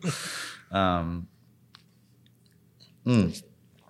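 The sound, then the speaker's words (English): A short slurping sip of a drink, followed by brief voiced sounds and quiet mouth clicks, with a second vocal burst near the end. “So I'll take a sip before this one.”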